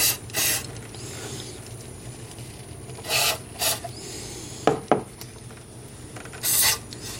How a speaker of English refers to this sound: I think I'm going to spray a little more of that cleaner. I'm doing this by opening up the throttle thing and then spraying.